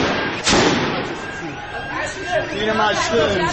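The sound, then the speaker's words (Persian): A single sharp gunshot, fired at protesters, cracks out early and loud over the clamor of the protesting crowd, whose excited voices carry on underneath and afterward. “ناگهان صدای تیر می آید”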